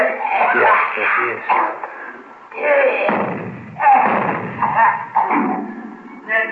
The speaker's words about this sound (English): Hey, wait a minute. Yeah, he's coughing.